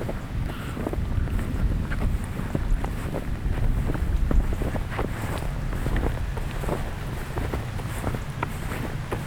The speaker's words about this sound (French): La neige, l'eau, quelques feuilles encore sur les arbres, des oiseaux, au loin les sonnailles.